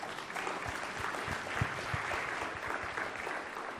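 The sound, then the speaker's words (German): A church audience claps steadily, applauding themselves after 28,000 euros in donations was announced, with dense overlapping hand claps forming a continuous, fairly loud wash of applause throughout, no voices standing out. “Und das ist, glaube ich, einfach mal ein Applaus, den wir uns selber geben können, wirklich wert.”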